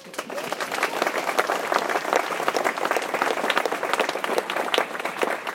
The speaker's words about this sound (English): Can I have a round of applause for the cadets?